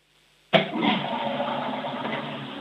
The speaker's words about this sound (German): Oh ja, ihr habt eine laute Klospülung.